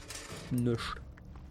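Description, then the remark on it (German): A drawer slides open with a brief rattling clatter, a short mechanical scrape lasting well under a second, moderately loud against a quiet background; the drawer is being searched and is empty. “Nichts. Nur Luft in der Schublade.”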